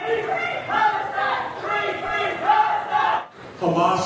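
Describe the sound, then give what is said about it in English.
At a town hall meeting where Byron Donalds answered questions from constituents, a crowd screams a chant of 'free, free' in unison, loud, overlapping voices rising and falling in repeated shouted phrases, breaking off briefly near the end before surging back in. “They're screaming free, free.”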